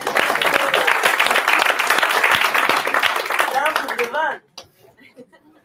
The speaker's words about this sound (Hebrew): קודם כל תודה לכם שבלעתם את הגלולה האדומה. תנו לעצמכם מחיאות כפיים.